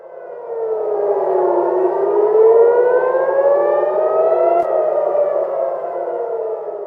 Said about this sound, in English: In Israel, interceptor missiles were seen over Tel Aviv on Wednesday night, with sirens sounding as families prepared for Passover.